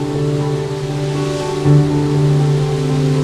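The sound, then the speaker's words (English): A waterfall roars down in a steady, continuous, loud rush of water, with a sustained low droning tone running underneath throughout. “The water thunders down behind them.”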